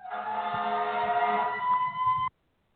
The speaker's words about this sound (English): Seems like every time I come on air, yo, the sirens just go crazy in my fucking neighborhood. Yo, shit is just bananas around here.